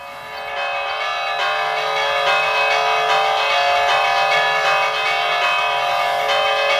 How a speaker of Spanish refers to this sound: En los pueblos también hay vida, también hay fiestas y los toques de campana de fiesta, que suene, por favor.